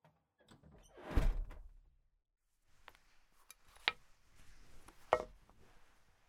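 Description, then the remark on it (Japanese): A door whose lock has just been released opens with a heavy thud and rumble, followed by quieter shuffling and two sharp clicks as someone comes in. No one speaks. “扉のロックは今解除したので、中へどうぞ。”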